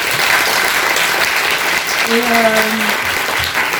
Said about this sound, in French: Merci, un grand merci à toutes les 5. Je pense qu'on peut les applaudir.